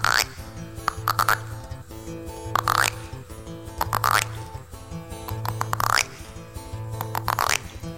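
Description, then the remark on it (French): Steve Waring mimics the croaks of various frog species with his mouth, with repeated throaty, bubbly pulses and a springy, rising twang recurring roughly every few seconds in a steady rhythm. “Mais on peut faire la grenouille avec la bouche.”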